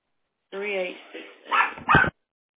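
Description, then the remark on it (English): A small Havanese dog, about 10 pounds and fluffy, lets out a high, whiny yelp followed by two sharp barks, all within about a second and a half. “Uh-oh, what kind of little dog is that? It's a Havanese.”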